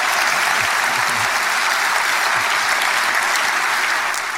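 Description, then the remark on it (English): A crowd at an award ceremony applauds Eddie Murphy as he makes jokes, dense overlapping claps forming a loud, continuous wash of sound that holds even for the whole few seconds without pause or distinct voices. “Now, what I like about that, if you listen to that, you can sort of read between the lines and you can hear the crowd warming up to him.”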